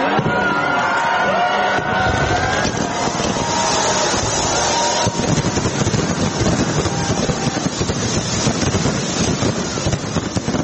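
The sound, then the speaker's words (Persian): A continuous roar of crowd noise and wind-like rumble, with dense irregular bursts and crackles of fireworks growing thicker and louder in the second half, at the New Year 2023 fireworks celebration in Sydney, Australia. “شهر سیدنی با آتش بازی بی سابقه از سال نو 2023 میلادی را استقبال کرد.”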